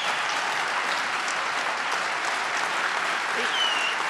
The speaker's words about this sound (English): I should get some applause on that, too.